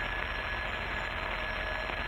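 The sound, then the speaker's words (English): A telephone in a lawyer's office rings in one steady, unbroken burst, a harsh buzzing bell sound with a thin high tone running through it, held at an even loudness with no voices. “As I was sitting in my office, the phone rang.”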